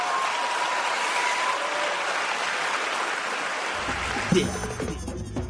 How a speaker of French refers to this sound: Un grand applaudissement pour Petit à Petit.